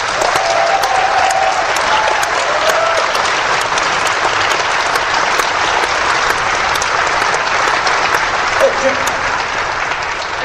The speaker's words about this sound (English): I think that the job that was done was absolutely yeoman's work and deserves its own round of applause.